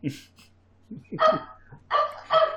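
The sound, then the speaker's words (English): A dog barks three times in short, sharp bursts, the last two close together and loudest, after a stretch of soft low murmuring. “So does the dog.”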